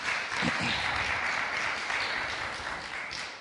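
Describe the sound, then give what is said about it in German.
Steady audience applause during a sermon, a dense wash of many hands clapping at once, sustained and fairly loud throughout without any voices standing out. “Nachher kriegst du noch einen Applaus, oder?”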